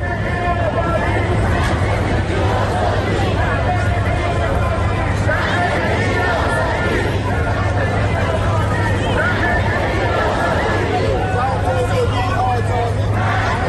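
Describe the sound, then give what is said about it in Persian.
A large crowd of Iranians at a Saturday protest rally in Washington, D.C., against the Islamic Republic chants the slogan "Woman, Life, Freedom" together, many voices blending into a loud, steady roar of shouting that carries on without pause, with a low constant hum running underneath. “اعتراضات ایرانیان در حالی وارد چهارمین هفته خود شده که در طول این مدت گروه های متنوع‌تر و بیشتری با باورها و گرایش‌های سیاسی و فکری و جنسیتی متفاوت به هم پیوستند و همه یک صدا فریاد زن زندگی آزادی سر داده و خواستار پایان 14 حاکمیت جمهوری اسلامی شدند.”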